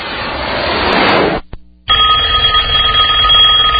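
A burst of rushing noise cuts out, then after a short gap a loud telephone bell starts ringing continuously, a steady metallic trill with no voices.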